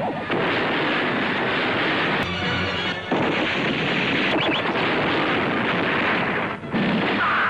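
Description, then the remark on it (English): A loud, dense barrage of explosions and gunfire from a big-budget Bollywood action movie, with action sequences and car crashes, roars continuously with a few sharper cracks and brief dips breaking through the rumbling wall of noise. “There are multiple explosions and action sequences, and they crash a few cars.”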